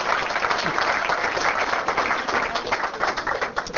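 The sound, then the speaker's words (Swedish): An audience applauds the evening's main guest, a dense, continuous wash of many hands clapping at even loudness for several seconds, with a faint murmur of voices mixed in. “En applåd.”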